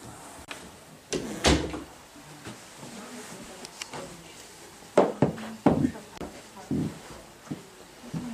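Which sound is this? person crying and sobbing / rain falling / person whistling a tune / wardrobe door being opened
wardrobe door being opened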